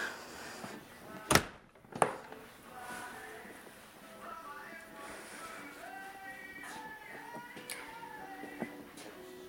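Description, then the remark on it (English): A barn door opens with two sharp clunks about a second apart, followed by steady low rumbling and faint creaking, wavering tones; a murmur of voice may sit underneath. “Where is the door handle?”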